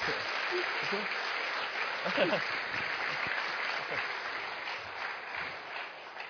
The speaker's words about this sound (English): Let's get a round of applause, please, guys. Come on. Come on.